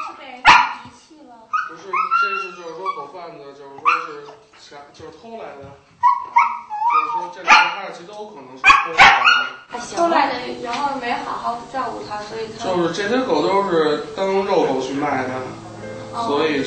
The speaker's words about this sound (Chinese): 他们两个狗肯定是家狗，所以就特别让喜欢让人摸，就是你摸我就没事了，你就摸摸它，它就不叫了，特老实，但是你一离开人，它就一直在狂吠。